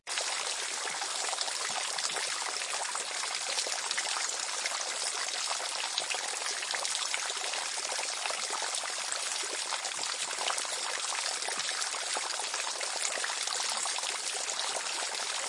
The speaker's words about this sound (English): The water was barely a whisper of its usual self, trickling dejectedly over stones and pebbles.